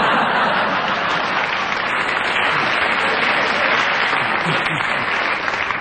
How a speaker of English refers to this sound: It's amazing how when they insult me, you always applaud, isn't it?